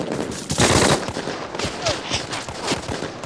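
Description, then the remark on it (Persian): Bursts of rapid automatic machine-gun fire, given as supporting fire, crackle and pop in quick succession, with a loud sustained volley early on and sharp shots continuing throughout. “آتش پشتیبانی!”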